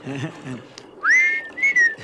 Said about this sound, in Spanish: Así que silbás como un violín. Más o menos, no más.